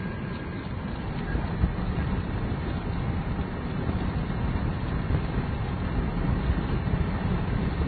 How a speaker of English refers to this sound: As you can hear, it's raining. As I drive, I might just pull over if it gets much worse.